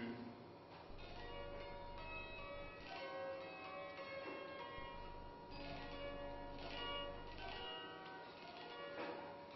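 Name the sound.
church bells ringing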